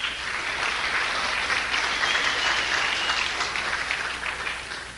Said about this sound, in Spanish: Entonces, dense un aplauso ustedes.